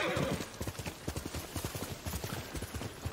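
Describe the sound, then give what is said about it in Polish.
Steady clip-clop of a ridden horse's hooves at a walking pace in the rain, each hoofbeat a sharp knock repeating in an even rhythm for several seconds over a soft background hiss. “Dobry z ciebie, koniu.”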